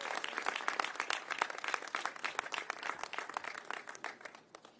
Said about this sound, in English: So let's give Mr. Lurie a big round of applause.